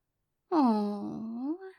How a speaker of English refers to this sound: Oh, was that a little yawn? Did Mistress's cute little puppy get all tuckered out again?